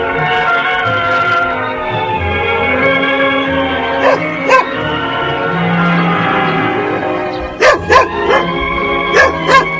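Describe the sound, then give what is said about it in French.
A small, newly bought white and brown dog yaps in short, high-pitched barks, mostly in quick pairs, fairly loud, over a steady whining, tonal background. “Maman, pour Guillaume, a acheté un petit chien.”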